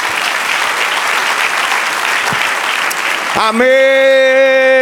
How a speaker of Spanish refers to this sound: Denle otro aplauso, Señor.